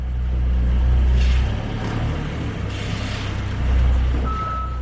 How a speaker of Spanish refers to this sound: Era el sonido de una excavadora dispuesta a reducir a escombros la estación de toda la vida, una estación que las había acompañado a ellas y a todos los vecinos de Ortigosa desde 1884.